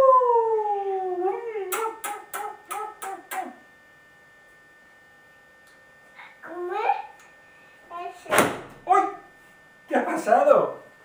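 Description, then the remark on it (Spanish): A pink balloon bursts in a single sharp, loud pop amid playful babbling and sing-song voices, with a quick series of clicks and a sliding, howl-like vocal earlier on. “Se ha explotado el globo.”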